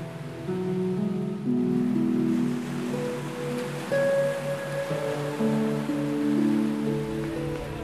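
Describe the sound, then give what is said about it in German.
Steady washing surf, gentle waves lapping over someone's toes on a beach in warm sunshine, runs beneath sustained, calm synth chords that shift slowly; no one speaks. “Lässt dir die Wellen über die Zehen schwappen.”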